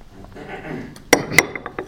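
A glass of water clinks sharply a couple of times as it is lifted for a drink and set down, with a few softer taps and faint handling noises around it.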